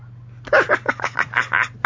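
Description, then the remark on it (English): A rapid run of short, high, tonal meow-like calls plays from an Alexa smart speaker imitating a cat, about eight in quick succession over a low electrical hum, with no one talking. “She got meows. Still meowing.”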